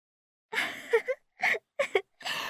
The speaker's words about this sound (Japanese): 大きなあくび。